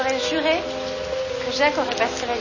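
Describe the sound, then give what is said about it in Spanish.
Artificial rain in a film scene, falling on three people sitting in the clouds, hisses as a steady, even wash throughout, constant, with voice-like tones and murmurs drifting over it. “En la película, 3 personas están sentadas en las nubes bajo una lluvia artificial.”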